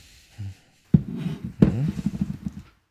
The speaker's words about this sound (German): Wolltest du nicht einen Wein? Ich habe hier einen guten Wein da. Okay. Hier, ich gieße dir mal was ein, warte.